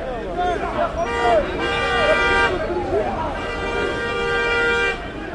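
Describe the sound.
Car horns honk in a traffic jam on Habib Bourguiba Avenue in Tunisia, where protesters march and chant. Two long sustained blasts overlap one another over a steady din of crowd voices and street noise.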